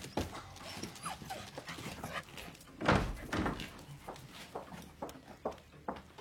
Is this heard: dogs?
yes